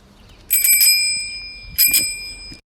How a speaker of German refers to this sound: In diesem Fall, lieber Christian, ist es wirklich eine Fahrradklingel und zwar aus dem Jahre 1950.